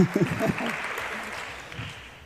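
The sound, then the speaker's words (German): Steady audience applause, a dense wash of clapping that fades slightly, with a voice briefly speaking over it at the start. The audience at the DSGVO-Pannenshow, an evening show about data protection fails, is welcoming two presenters. “Einen großen Applaus für die beiden, bitte.”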